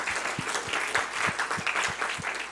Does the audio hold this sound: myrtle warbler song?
no